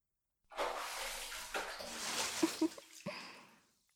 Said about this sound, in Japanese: さあ、もう一回お湯をかけましょう。一回じゃさすがに泡は落ちないから。